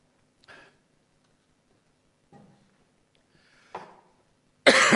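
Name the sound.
coughing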